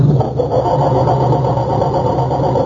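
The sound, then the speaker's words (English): A car engine churns and cranks steadily but never catches because the coil wire to the distributor has been removed, a continuous low mechanical grinding with no voices over it. “It sounds like our culprits are having trouble starting Dennis's car.”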